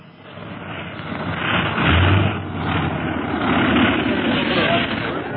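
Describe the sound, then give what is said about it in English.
A plane comes in to land with its engines running, a loud, steady droning rumble with a low hum underneath that swells slightly midway and holds for several seconds. “Ricard and his men arrive just as the plane lands.”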